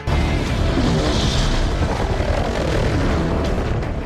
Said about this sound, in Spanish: pero saca un lanzacohetes. Y de un misilazo se carga un helicóptero sin apenas despeinarse.